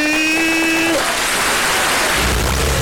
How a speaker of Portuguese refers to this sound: É a dominação feminina global, batata! Vamos aplaudir!